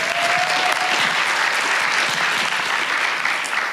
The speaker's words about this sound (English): Let's give them a hand of applause for that.